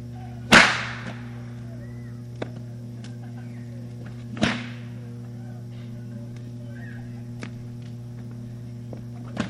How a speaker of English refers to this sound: Now, if you think that I would hurt anybody with these whips, well, you know I wouldn't start on that, so I'm going to demonstrate and let you see that I'll wrap them around her and not hurt her.